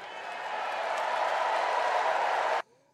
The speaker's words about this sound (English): Thank you, Joe. Thank you, Joe. The crowd ended the evening chanting last night. Thank you, Joe.